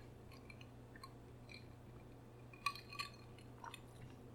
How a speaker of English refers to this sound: Cheers, cheers, Eric. All right, cheers, Wes. Clink.